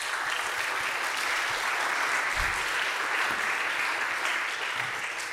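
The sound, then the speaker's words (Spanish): Sustained applause from an audience for the mothers present, a dense steady wash of many hands clapping at an even loudness for several seconds, with no speech over it. “Vamos a darles un aplauso a las mamis presentes.”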